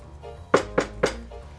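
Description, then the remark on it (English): Three firm knocks on the wooden door of a big house in an even rhythm, fairly loud, with quiet background between them and no talking. “Okay. Well, I'll knock.”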